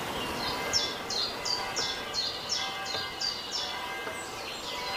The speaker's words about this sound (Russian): Теперь направьте внимание на пение птиц.